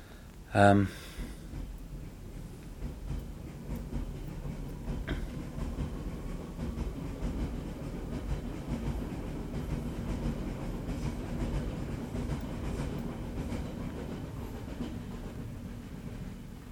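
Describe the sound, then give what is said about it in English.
A train rumbles steadily along the rails for the whole stretch, a dense low roar with faint rattling, preceded by a brief, sharp tonal burst right at the start. “Okay, so there goes the train.”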